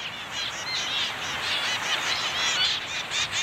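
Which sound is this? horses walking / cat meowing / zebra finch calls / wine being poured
zebra finch calls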